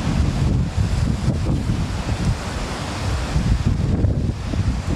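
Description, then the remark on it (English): Strong wind during a windstorm on the Sea of Galilee buffets the microphone in a steady, rumbling roar, with waves washing and churning underneath throughout. Loud, with no voices, only constant gusting over rough water. “And you see where the Sea of Galilee is, or where this lake is, it actually has a funnel, it's got land either side of it, so the winds funnel through and then can come from nowhere.”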